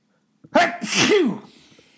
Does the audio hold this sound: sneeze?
yes